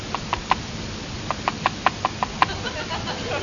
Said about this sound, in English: Something strange is happening. There's a peculiar knocking sound on the windscreen. Seems to be coming from outside the plane.